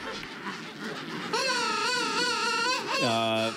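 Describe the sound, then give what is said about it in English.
King penguin calls: loud, harmonic trumpeting warbles with a wavering pitch, rising out of a noisy colony hubbub and ending in a steadier, lower drawn-out call. “King penguins.”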